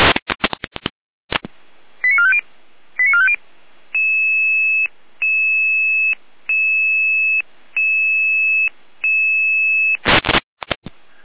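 Emergency radio alarm call tones dispatching a unit and an emergency doctor to an unconscious person: a brief burst of static, two quick multi-tone chirps, then five steady electronic beeps in an even, repeating rhythm, ending with another crackle of squelch noise. No one speaks.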